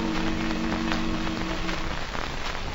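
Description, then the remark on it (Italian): Steady rushing water from a slow river current turning the enormous paddle wheel of an old mill, with soft recurring splashes and a low droning hum that fades out partway through. No voices. “L'enorme ruota a pale e la corrente del fiume che fluisce eterno scandiscono il ritmo di un canto eguale e nostalgico.”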